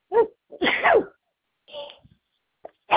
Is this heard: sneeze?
yes